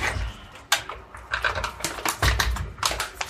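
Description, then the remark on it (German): Cooking water with peeled, chopped sweet potato in it boiling loudly, a steady low rumble under irregular crackling pops and bursts of bubbling, with no voices. “Warte mal, ich nehme euch mal mit, weil das Kochwasser ist so laut.”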